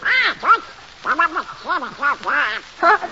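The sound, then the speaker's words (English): Donald Duck's cartoon voice quacks and sputters in a rapid string of squawky, nasal bursts, fairly loud, like garbled duck-talk with short pauses between phrases. “What's that noise, Mickey? Oh, that's Donald Duck.”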